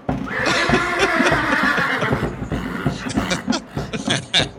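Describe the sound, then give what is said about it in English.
A horse neighs loudly, a long quavering whinny lasting about two seconds, followed by several shorter snorts and breathy nickers. “Thank you, horses.”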